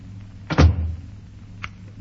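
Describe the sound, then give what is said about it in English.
A door is handled: a solid thump with a rattling latch, followed about a second later by a small sharp click, with no voices. “Go on, you can go now. Out the other door.”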